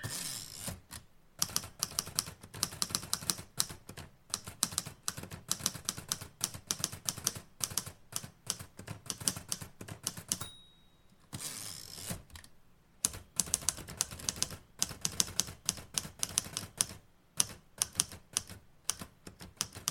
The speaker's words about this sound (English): And I'm just going to finish typing up these notes.